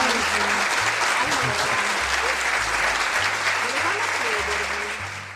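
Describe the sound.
Steady, dense applause from a crowd fills the whole stretch, loud and continuous, with low tonal sounds and faint voices beneath it, tapering slightly at the end, welcoming two new guests who are recent graduates of the Accademia dei Filodrammatici di Milano.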